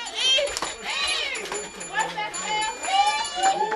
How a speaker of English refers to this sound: Every weekday at dawn, at 5 o'clock in the morning, Harvey makes a grand entrance at his Atlanta production studio. There he is. His production staff goes a little nuts. It's an office ritual. The makeup artists start a cheer.